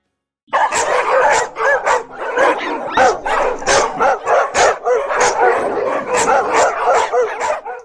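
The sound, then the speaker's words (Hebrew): A pack of dogs that found bones in the street bark, yip and snarl at once as they ravenously fall on the bones, a dense, continuous, loud frenzy with overlapping growls and whines filling the whole stretch without pause. “חבורת כלבים מצאו עצמות ברחוב והתנפלו עליהן ברעבתנות.”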